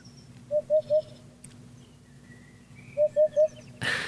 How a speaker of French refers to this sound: Ça, c'est un oiseau? Ouais. De Québec? Non, je pense pas. Ça doit pas. Ça ressemble à un oiseau nocturne. Il est sympathique. Ça fait penser aux tropiques quand même un peu. Ou Amérique du Sud.